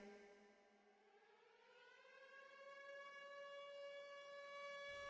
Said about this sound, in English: Why am I hearing sirens?